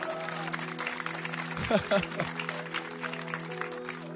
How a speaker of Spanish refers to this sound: Muchas gracias a nuestro colaborador escondido. Un aplauso, por favor.